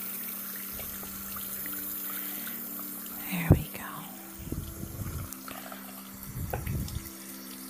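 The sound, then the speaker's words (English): Tap water runs steadily at a low hiss while a face mask is washed off a face, with a brief sharp knock partway through and a soft whispering voice speaking over it. “Don't worry, I won't make the water too hot.”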